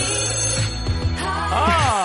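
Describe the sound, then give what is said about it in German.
A smartphone rings with a bright, melodic ringtone that plays steadily and fairly loud for about two seconds, with no voices over it. “Ihr hört die S1 Morning Show und stellt euch jetzt mal vor, euer Smartphone klingelt und dran ist's.”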